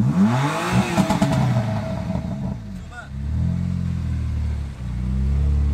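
A 450-horsepower BMW M4 Competition sports car engine revs hard, its pitch sweeping up and down in throaty bursts, then settles into a deep rumbling idle that swells again, loud, as it rolls into the parking on Strandvägskajen, Strandvägen in central Stockholm.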